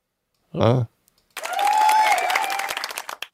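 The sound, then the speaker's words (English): An applause sound effect: a short voiced whoop rings out, then after a brief pause a burst of clapping and cheering swells for about two seconds, dense and loud, before thinning into a few scattered claps. “Okay, so this is the applause one.”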